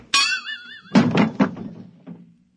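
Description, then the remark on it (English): A wavering, ringing tone sounds first, then a hammer lands in a quick run of three heavy, dull blows, followed by a couple of softer knocks fading out. No one speaks. “Now, quick, that hammer. Look out!”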